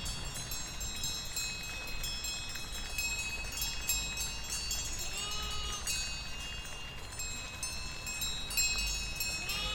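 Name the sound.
sheep bleating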